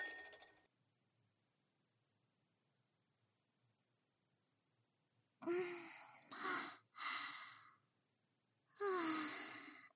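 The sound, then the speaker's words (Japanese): A quick, ringing clink of glasses in a toast over single whiskies at the very start, then a few seconds of quiet before several breathy sighs and exhales follow one after another. “では、乾杯。”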